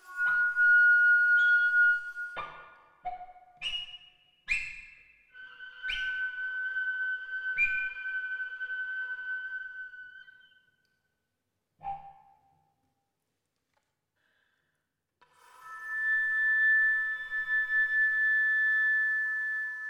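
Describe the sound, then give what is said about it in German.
Thin, high whistling harmonics from cello and flute in their highest registers, played as brittle sustained tones with sharp attacks, broken by pauses and a long near-silence before a steady high tone returns. “Cello und Flöte untersuchen die Pfeiftöne in höchsten Lagen von allen Seiten auf ihre brüchige Klanglichkeit.”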